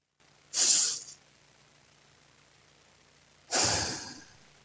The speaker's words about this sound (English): In fact, if it's safe for everyone listening, if you're not driving your car, watching an infant, we could do it right now. So just take in a couple of deep breaths.